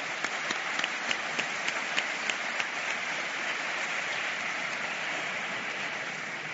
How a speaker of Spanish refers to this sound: Un aplauso para ellos.